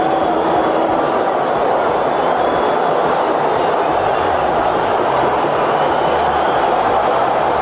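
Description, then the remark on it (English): A huge baseball stadium crowd roars and cheers at the final game of the 1980 World Series, in a dense, sustained wall of noise, steady and loud for the whole stretch, with no single voice standing out. “The crowd will tell you what happened.”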